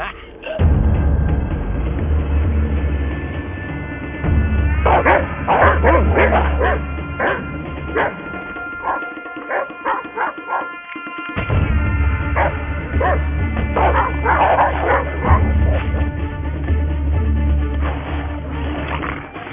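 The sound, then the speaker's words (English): Several dogs bark and yip excitedly in overlapping bursts, loud, with occasional whimpers; a brief lull comes midway before the frantic barking resumes. “Well, we're not gonna kill the dogs”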